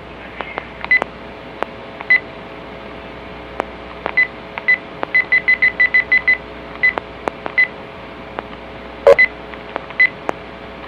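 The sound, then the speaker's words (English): A series of short electronic telephone keypad tones beeps over a faint, steady line hum, some in quick bursts and others spaced apart, with sharp clicks scattered between them and no voices. “Hang up the phone!”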